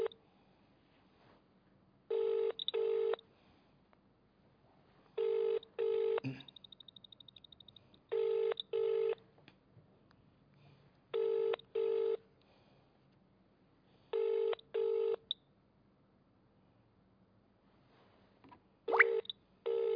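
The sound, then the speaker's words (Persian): Telephone tones over a quiet line: a short high beep, then a steady ringing pattern of paired electronic rings every few seconds, clear, with no voices; a call being placed to the Kalameh TV network. “خب داره زنگ میخوره.”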